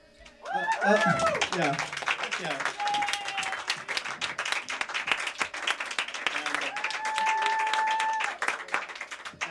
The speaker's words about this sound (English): Yes, yes, a big round of applause for him.